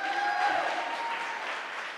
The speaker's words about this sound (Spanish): Para cambiar el mundo se necesita conectar generaciones y por eso yo quiero que le demos un fuerte aplauso a mis cuatro invitadas el día de hoy.